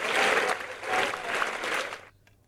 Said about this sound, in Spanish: Aplausos, ¿no? Venga.